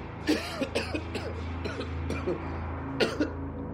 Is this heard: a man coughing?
yes